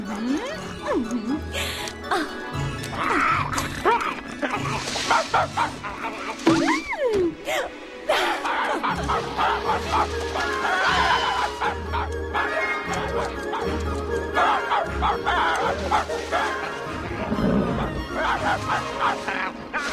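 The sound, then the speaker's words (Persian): A dog, Little Brother, barks and yips in quick, repeated, fairly loud bursts, with a few whimpers mixed in while a person talks over it amid busy background noise. “ای وای داداش کوچولو، داداش کوچولو، اینجایی؟ باهوش‌ترین سگ دنیا کیه؟”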